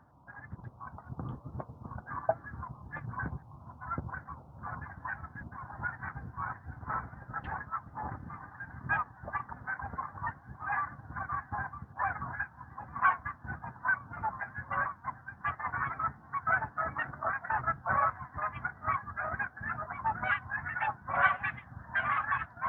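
A large flock of geese honks continuously as they fly overhead in the early morning in six or eight V formations, dozens of overlapping calls forming a dense, clamorous chorus that swells slightly louder toward the end, with no voices present.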